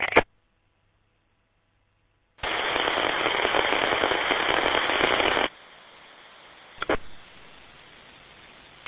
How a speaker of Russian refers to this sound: Так, одни щелчки, больше ничего. Одни щелчки.